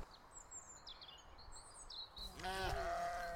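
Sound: sheep bleating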